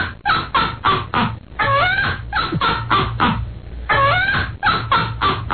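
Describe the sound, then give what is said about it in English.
A myna bird sound effect lets out a rapid, laugh-like cackle: loud, rhythmic bursts of chattering calls with rising squawks in between, continuous without a pause. “How about a minor bird laughing?”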